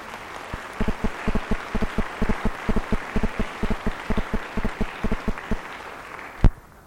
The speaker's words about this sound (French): Ils applaudissent bien fort.